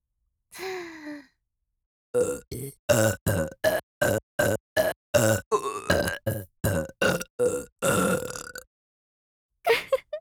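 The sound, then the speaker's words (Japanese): A breathy exhale, then a rapid, evenly spaced run of about seventeen short, loud burps in a steady drumlike beat imitating a wooden temple drum, followed by a pause and one last brief burp. “そうじゃ、今までこやつに貯めたゲップ人力をチンポに一点集中、さらに木魚ゲップでチンポへの血流を促すのじゃ。”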